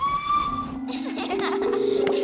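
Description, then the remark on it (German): A steam locomotive whistle sounds a sustained, bright tone, followed by a lower held whistle over rhythmic hissing chuffs, fairly loud, with no talking. “Mit der Dampflok.”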